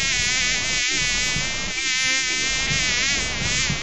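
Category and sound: insect, fly buzzing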